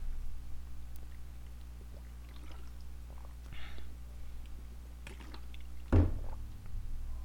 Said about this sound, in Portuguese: Deixa eu beber um gole d'água aqui, rapidão.